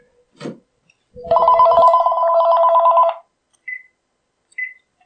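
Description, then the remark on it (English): A telephone rings once, loud, a warbling electronic trill lasting about two seconds, preceded by a click and followed by two short, high beeps. “Phone rings.”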